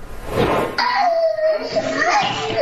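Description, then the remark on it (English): A 2-year-old girl cries and screams, a loud wavering wail that rises and falls continuously after a brief noisy burst at the start, recorded by a surveillance camera in Southwest Miami-Dade as her teacher grabs her. “A camera was rolling as a 2-year-old little girl is heard crying and screaming.”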